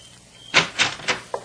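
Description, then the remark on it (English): A door being opened, with three short, fairly loud clattering bursts from the latch and frame, then a faint final click. No one speaks. “get decent and open the door.”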